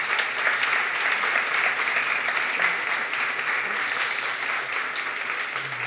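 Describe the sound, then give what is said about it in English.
Steady applause from an audience, a dense, even patter of many hands clapping at a constant loudness for several seconds with no voices standing out. “A big round of applause.”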